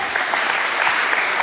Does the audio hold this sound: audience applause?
yes